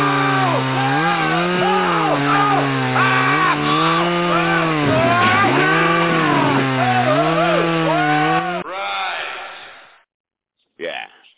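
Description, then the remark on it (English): Shemp using a bone saw: a loud, buzzing bone saw whines steadily for about eight seconds, its pitch wavering up and down as it cuts, then breaks into a rough noisy burst, a brief pause, and one last short buzz. “How about a couple of seconds of Shemp with a bone saw?”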